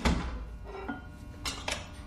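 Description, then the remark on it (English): A basement door thuds shut, followed by a few sharp metallic clicks of a lock being turned, with no one speaking. “The basement door closed, too. Locked, by the sound of it.”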